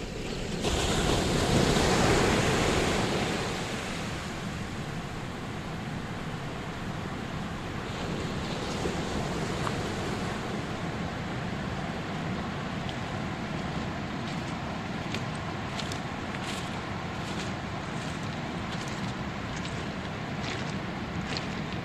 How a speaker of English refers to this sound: Behind us there's a surf beach, a marvellous surf beach, miles of it, and in front of us there's a system of dunes.